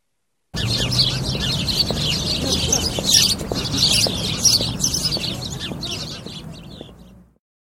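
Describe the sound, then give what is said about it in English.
A busy chorus of many birds chirping and twittering nonstop on a sunny day, over a low, steady background hum, fading out gently at the end. “The sun was shining and the birds were singing.”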